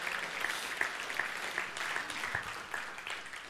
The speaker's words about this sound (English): Give her a round of applause and welcome her back.